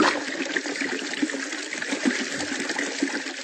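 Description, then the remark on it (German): Water gushes out of a punctured waterbed in a steady, forceful rush, a loud continuous splashing and hissing stream with small gurgling surges and no voices. “Oh nein, mein Wasserbett.”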